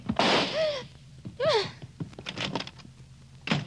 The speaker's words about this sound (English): With a slam of the door, Miss Loring was gone, and so was the Hangley jade.